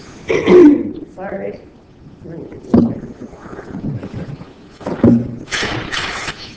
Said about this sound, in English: There seems to be a lot of coughing going on.